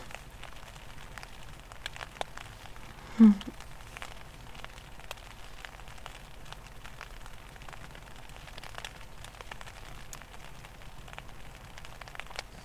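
Steady rain patters on a tent in a soft, continuous hiss of scattered droplet taps, with one brief louder thump early on. No voices.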